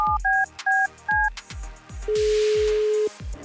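A quick run of paired touch-tone beeps as a phone number is dialed for a call from the radio station Nova, followed by a long steady ringing tone, clear over a rhythmic low thumping beat.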